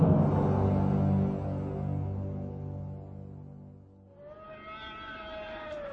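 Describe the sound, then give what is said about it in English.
A low, droning warning siren wails continuously, then shifts into a higher, steady mechanical whine partway through. It is loud, sustained and heard alone, with no voices. “A dozen meters above, the settler's call siren screamed its ear-piercing warning to the oasis and beyond.”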